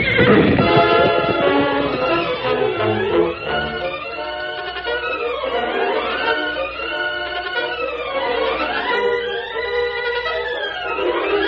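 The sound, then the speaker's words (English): A horse neighs loudly and repeatedly in long, wavering whinnies that rise and fall, with galloping hoofbeats rumbling underneath near the start. No one speaks. “That horse is gone from here.”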